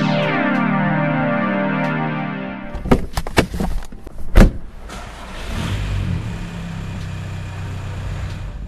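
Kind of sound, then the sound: vehicle, car interior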